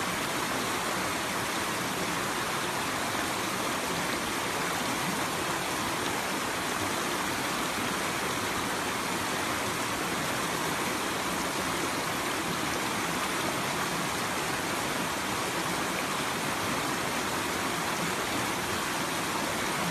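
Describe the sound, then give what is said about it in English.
Steady, dense rush of bubbling, flowing water, like a stream churning continuously without pause; no voices, just the constant fizzing babble of many tiny bubbles. “I mean, even the sound does it because it's so complex, right? That it's like many little bubbles, you know, it's like hundreds of little bubbles.”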